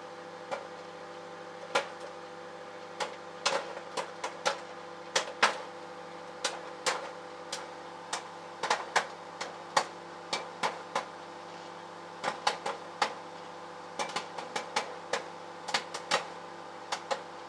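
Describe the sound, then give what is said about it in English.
Popcorn pops inside a running microwave, with sharp cracks bursting out at an irregular, quickening pace over the oven's steady low hum. Nobody speaks. “Well, we now have fireworks by the sound of it going off inside the microwave.”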